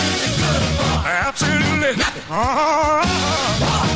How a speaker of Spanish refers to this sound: pon cualquier canción y acelérala